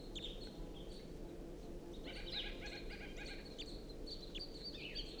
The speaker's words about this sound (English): It's recording a wild bird. It's perched in the tree above the net now, singing.